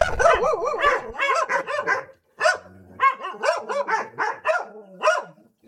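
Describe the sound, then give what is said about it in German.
Several dogs at an animal welfare association in Nauenstein bark excitedly in rapid, overlapping, loud bursts as a visitor is greeted, with a brief lull before the yapping picks up again in quick succession. “Die Hunde haben sich erstmal ein bisschen aufgeregt, aber die waren sonst irgendwie ganz lieb.”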